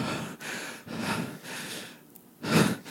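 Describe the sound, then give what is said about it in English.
Heavy, panicked breathing: a quick run of about four ragged breaths in a steady rhythm, ending in a louder, sharper gasp, with no talking. “I back up like against the wall of the tent. I'm just breathing.”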